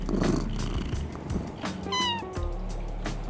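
A cat named Croak at Treehouse's Cat Cafe purrs with a steady low rumble, then gives a single drawn-out meow that slides downward in pitch before the purring continues. No one speaks.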